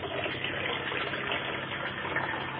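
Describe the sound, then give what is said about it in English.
Photographic fixer is poured from a Patterson film developing tank back into its container for reuse, a continuous splashing gush lasting a couple of seconds with no pauses, moderately loud. “Take the top off my packaging tank, pour my fixer back into the container because I can use it again.”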